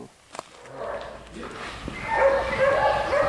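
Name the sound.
dogs barking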